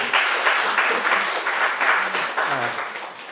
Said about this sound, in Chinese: 我鼓掌欢迎